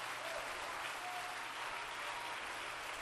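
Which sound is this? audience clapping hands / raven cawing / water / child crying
audience clapping hands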